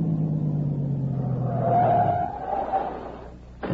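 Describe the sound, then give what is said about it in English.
A car engine rumbles steadily, then winds down and cuts out partway through as the car stops at a cave entrance where the road dead-ends, with a faint squeal as it stops, leaving quiet background and a brief sharp click near the end. “There's a car. It stopped.”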